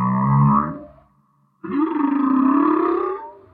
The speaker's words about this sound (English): Okay, listen to this sound we're about to play. You could think of this as a hit song for whales, and listen very closely so you can hear all of the parts.